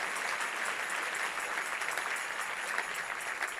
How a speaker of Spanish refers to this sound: Sí, ese es el aplauso, dáselo más fuerte al Señor.